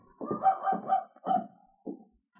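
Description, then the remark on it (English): Rags, a little dog, whines outside at a cabin door during a windy storm in a run of four or five short, nasal, mid-pitched cries, followed by a fainter whimper, with no voices present. “Meantime, Sergeant Preston was in his cabin with King when they heard a noise at the door above the whining of the wind. Sounds like a dog outside, King.”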